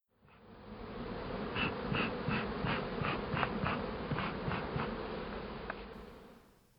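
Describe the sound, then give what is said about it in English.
A dense, steady swarm of bees drones around a hive, many overlapping buzzes forming a continuous hum with brief higher whines as individual bees pass, no voices. “Joan starts to spend more time with the bees.”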